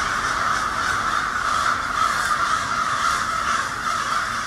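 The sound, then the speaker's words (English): A dense, continuous din of hundreds of crows perched on every branch of the trees, all cawing and screeching at once, loud and unbroken for the whole stretch, with no voices, just a harsh overlapping wall of bird calls. “It's like hundreds of them on every twig of every branch of every tree, and they're all screaming.”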